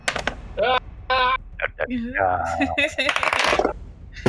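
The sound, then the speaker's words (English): Several dice clatter and tumble across a tabletop in quick, overlapping bursts of sharp clicks as players roll for initiative in a game, while voices talk and exclaim over the rattling. “Everybody, roll for initiative.”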